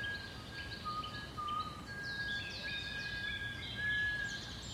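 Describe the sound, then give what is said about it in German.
Thin, high whistling tones in a forest drift in and out over a steady wash of background noise, some held as long even notes and others sliding briefly, all fairly soft. “Da folgten auch schon die nächsten Pfeiftöne.”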